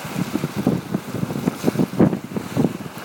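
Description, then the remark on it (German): Sea waves wash on the Kniepsand beach near Wittdün beneath steady, gusting wind that buffets the microphone with a low, rumbling roar. The sound swells and dips irregularly, and no one speaks. “Aber wir haben das Meer gefunden, wie ihr hört.”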